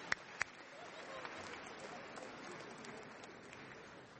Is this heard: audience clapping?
yes